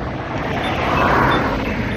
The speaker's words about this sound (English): It's definitely holiday season. Traffic isn't all that crazy out here today. Traffic is kind of light. You can definitely notice a difference in traffic. I definitely notice a difference in traffic. It's definitely lighter.